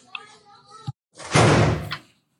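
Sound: door being closed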